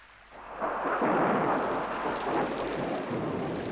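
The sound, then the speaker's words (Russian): Rain begins to fall as a heavy downpour, swelling from near quiet into a dense, steady rushing hiss within a second and continuing loudly with a low rumbling undertone. No voices. “А вот и дождь пошел, обещанный тобой.”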